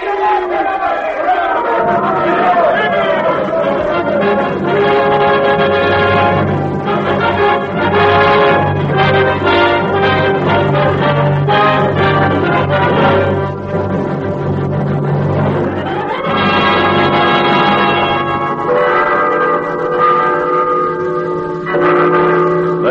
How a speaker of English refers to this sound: Christmas week of 1812, the bells of Moscow, 40 times 40 churches and cathedrals, ring out the hours heralding the birth time of the Prince of Peace.